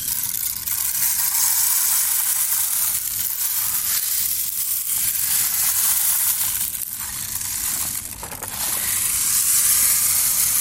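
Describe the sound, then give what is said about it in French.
A rain stick pours a steady, dense shower of tiny rattling pellets, a bright hiss-like patter that swells and dips slightly before continuing evenly, with no voices. “Un superbe voyage qui conduira le tout petit à explorer la musique vocale des chanteuses, les sons graves du violoncelle ou aigus de son petit frère le violon, mais aussi des sons parfois plus exotiques, comme celui du bâton de pluie.”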